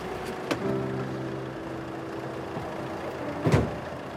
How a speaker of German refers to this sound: Da hält der Wagen und er steigt aus.